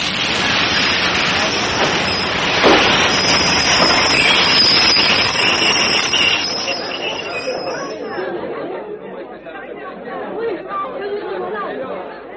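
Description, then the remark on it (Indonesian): A train weighing hundreds of tons grinds loudly as it is forced to a stop, with a high, steady squeal of braking that fades after several seconds, leaving a quieter rumble, with a crowd chattering underneath throughout. “Dan lihatlah, dari ujung jari-jarinya memancar cahaya kemerahan yang ternyata mempunyai kekuatan luar biasa, mampu menahan lajunya kereta api yang mempunyai massa beratus-ratus ton ini.”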